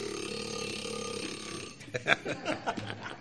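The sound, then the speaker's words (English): A 30-minute timer clock alarm goes off during a city council public hearing, starting with a steady, buzzy tone for over a second, then breaking into a string of short, uneven bursts of sound. “Perfect timing. That's my 30-minute clock.”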